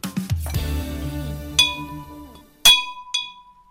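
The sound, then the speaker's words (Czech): Many small bells jingle and clink on someone's arrival in a series of bright, ringing strikes, each leaving a high metallic tone that fades out, with a few lower rumbling knocks at the start and no talking. “Spousta zvonečků při příchodu.”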